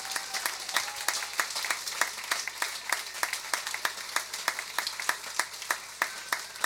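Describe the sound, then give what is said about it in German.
An audience applauds two performers after a musical performance, a dense wash of clapping punctuated by sharp, fairly regular claps that stand out throughout. The level stays even from start to finish, with no voices. “Ja, den beiden nochmal, denke ich, einen ganz tollen Applaus.”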